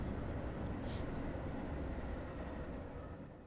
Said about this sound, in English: There goes a train actually right now.